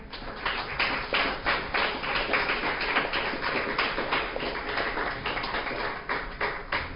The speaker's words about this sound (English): So on behalf of all of us, we would certainly like to acknowledge those Redlanders. So could you please join me in giving them a round of applause?